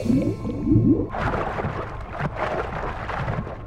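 whale call

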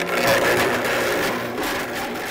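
blender running

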